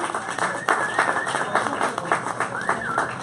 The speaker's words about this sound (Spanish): Vamos a darle fuerte aplauso a estos individuos.